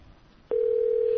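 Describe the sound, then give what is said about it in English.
Brief quiet line hiss, then a click and a steady, loud ringback tone on an outgoing call to someone's home phone that continues unbroken to the end. No voices are heard. “It's a ringing phone”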